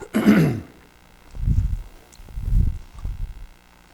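A sharp, harsh cough bursts out from a person who has had a sore throat and cough for two weeks, followed by three low, rumbling throat-clearing grunts in an uneven rhythm, with no talking.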